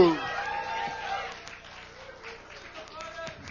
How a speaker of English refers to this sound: Come on, let's give him a round of applause.